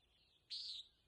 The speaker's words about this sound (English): The common nighthawk is another parking lot visitor. Both these birds are eating insects that gather around the street lamps. Listen for the distinctive peent of the nighthawk.